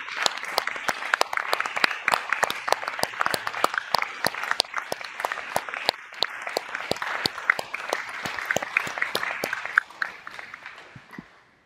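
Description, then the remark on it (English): A room full of people applauds steadily for about ten seconds to thank their friends at PI for their support, dense overlapping claps with sharp individual hits, tapering off at the end. “And so I would ask you to warmly clap for our friends at PI.”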